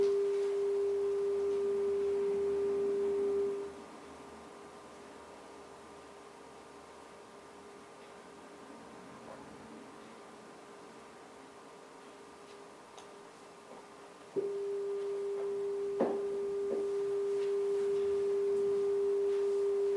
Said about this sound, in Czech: Pouštím základní tón 400 Hz a pustím k němu tu přesnou oktávu.